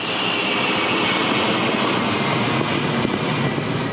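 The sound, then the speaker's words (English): A steady, loud engine drone fills the whole clip, a broad continuous roar of a commercial cargo plane, chartered by the WFP and rigged for dropping food, flying during a food airdrop, with no speech. “The WFP has chartered most of the commercial cargo planes in the world that are rigged for dropping food.”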